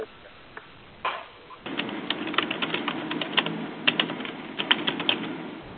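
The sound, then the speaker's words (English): Rapid, uneven clicking of keys on a computer keyboard during an online group meeting call, starting after a brief pause and continuing steadily, fairly distinct over a faint background hum. “Someone's typing, and it would be so helpful to mute.”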